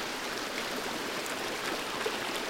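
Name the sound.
rushing water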